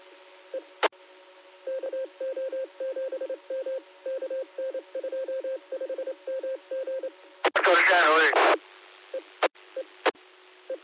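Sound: telephone call being dialed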